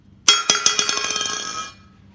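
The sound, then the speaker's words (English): A dropped metal water bottle hits the ground with a loud clang, then clatters through a quick series of smaller bounces, its bright metallic ring fading out over about a second and a half. “And I often drop my water bottle, which is why you just heard a sound of a metal object, a water bottle crashing into the ground.”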